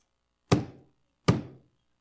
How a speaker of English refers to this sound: And Moses lifted up his hand, and with his rod he smote the rock what? Rock what? Twice.